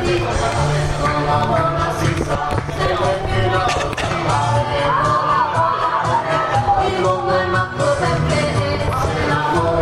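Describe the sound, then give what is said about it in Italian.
A dense outdoor crowd on the steps of San Giuseppe in Cefalù fills the scene with constant overlapping chatter and voices, steady and fairly loud throughout, with occasional sharper shouts and clatters rising from the hubbub. “Siamo sulla scalinata di San Giuseppe.”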